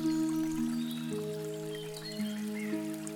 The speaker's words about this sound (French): Toi, tu es sur le banc avec ton arbre protecteur et tu écoutes cette rivière qui te calme.